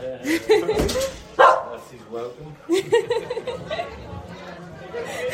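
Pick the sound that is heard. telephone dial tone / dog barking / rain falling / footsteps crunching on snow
dog barking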